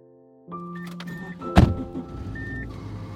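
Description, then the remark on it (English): A car's interior hum and chime tones, a door slamming shut with a solid thunk midway, then a low engine rumble settling in as the car starts to pull away from a driveway. “As I hop in the car and pull away from Eric's driveway”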